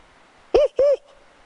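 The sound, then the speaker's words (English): A wildlife biologist imitates northern spotted owl hoots in Olympic National Park: two short, loud, low-pitched hoots in quick succession, each slightly rising then falling, with quiet background otherwise. “He's a hooter. That is, his hoots are so convincing, the owls respond.”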